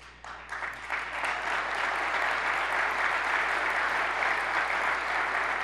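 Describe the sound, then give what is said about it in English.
An audience applauds during a speech about government and legislation, starting with a few scattered claps and swelling into steady, dense clapping that holds loud and even throughout. “Now I'm watching who clapped to see if we can make sure we see those turned into votes.”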